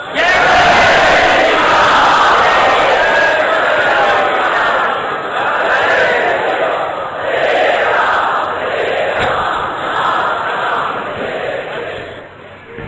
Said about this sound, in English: The moment everyone was waiting for. There was a roar of chanting the glories of Sri Ram.